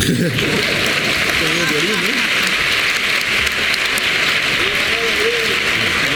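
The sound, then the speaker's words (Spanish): A crowd applauds steadily for about six seconds, a dense, even wash of clapping, with voices calling and chattering underneath. “Un aplauso, ¿no?”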